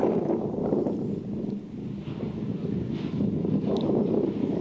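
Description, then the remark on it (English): Steady, roaring wind blowing over a lava lake in a small crater, carrying waves of hot gases and heat, buffets the microphone with a dense low rumble, surging and easing slightly without pause; no voices are heard. “You can hear the wind blowing, sending waves of hot gases and heat that almost overwhelmed us.”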